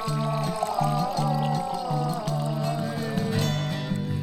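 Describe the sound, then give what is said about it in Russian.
A drink is poured in a steady, gurgling stream with a rhythmic glugging underneath, its pitch slowly rising as the glass fills. “Наливай.”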